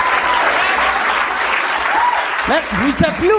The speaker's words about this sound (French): Vous applaudissez trop longtemps, là.